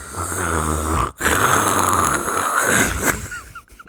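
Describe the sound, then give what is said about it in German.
A voice imitates loud snoring mixed with heavy, rasping respirator-like breathing: two long, drawn-out breaths with a brief pause between, loud, with no talking. “Es klingt wie ein schlafender Darth Vader.”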